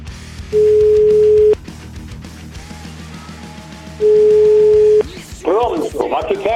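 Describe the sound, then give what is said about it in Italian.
Two long, steady electronic telephone beeps, each about a second, sounding after a phone call has been cut off, separated by a pause with faint background noise; a man starts talking right after the second beep. “Si è chiuso il telefono. No, ho capito. Si è chiusa la comunicazione.”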